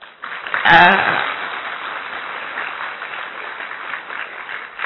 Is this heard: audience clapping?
yes